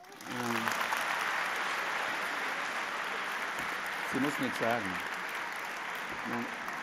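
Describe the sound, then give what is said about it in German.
Sustained applause from an audience fills the whole clip, a steady dense clatter of many hands clapping, with a man's voice talking briefly over it at a few points. “das ist dein Applaus.”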